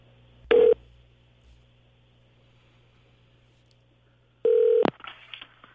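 Two short electronic keypad tones from a telephone in a studio, one near the start and a longer one a few seconds later, separated by quiet low hum, with faint rustling after the second tone.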